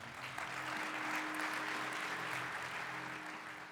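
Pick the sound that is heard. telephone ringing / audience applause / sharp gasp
audience applause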